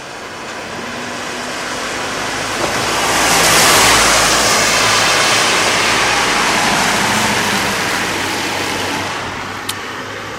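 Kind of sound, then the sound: nature, steady rain falling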